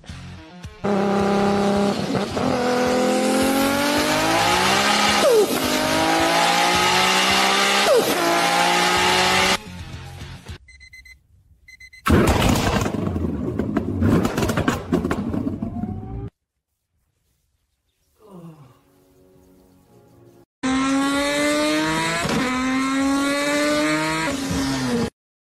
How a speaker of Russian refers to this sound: Повернуть ключ и услышать тот самый звук, самый главный, которому в нашей жизни многое подчинено. А если наоборот? Чтоб с него начинался день, чтобы сразу V8 по нервам и по ушам, чтобы звук и настроение были стартом, а не пит-стопом или финишем.